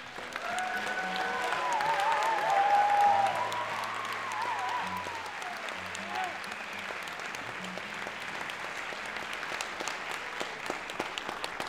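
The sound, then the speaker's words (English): A concert audience in a hall applauds steadily as the performers announce they are finishing with Irish music, a dense patter of many hands that swells early on and then holds at an even level. A few faint whistles and low tones sound beneath the clapping. “They're applauding because we're finishing up?”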